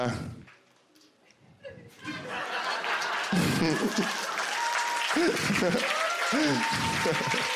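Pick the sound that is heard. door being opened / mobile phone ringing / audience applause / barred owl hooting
audience applause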